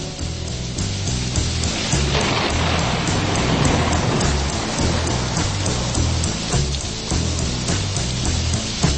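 Steady, dense storm rain hisses and patters for the whole stretch, loud and unbroken, with a low, pulsing bass line rolling quietly underneath.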